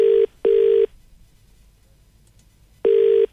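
A phone rings as Eddie Maguire calls Prime Minister Scott Morrison, with a steady electronic tone in a double-burst pattern: two short rings, a pause, then the next ring begins. Loud and clear, with no voices.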